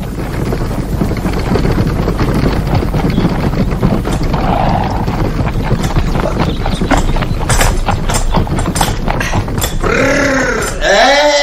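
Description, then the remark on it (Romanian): A horse's hooves clip-clop steadily in a dense, noisy outdoor scene with wind and rumbling, ending with a few rising and falling whistle-like tones. “Cum mai merge cu pălăria peste înceană cu un cal putere.”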